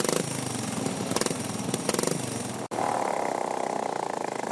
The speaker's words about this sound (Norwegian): Der har motoren fått en annen lyd. Ja, en litt annen lyd. Nå slapper han litt mer av.